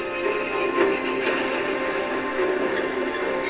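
A train rolls along the rails with a steady rumble, its wheels letting out a sustained high-pitched metallic squeal that holds throughout, loud, with no voices; the train is carrying passengers to Metzingen station in Württemberg, Germany, in June 1948.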